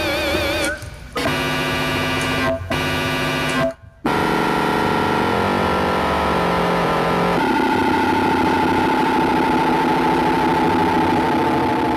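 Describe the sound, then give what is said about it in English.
Loud, buzzy noise from a purely analog synthesizer: harsh harmonic tones that cut off abruptly a few times early on, then a dense, continuous droning texture whose pitch shifts partway through. No one speaks. “So this is purely with analog. You can't do this with digital.”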